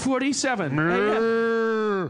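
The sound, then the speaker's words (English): A single long, drawn-out cow moo, loud, holding a steady low tone for about two seconds before cutting off, preceded by a brief rough onset. “Not going to worry about it. Got a cow catcher.”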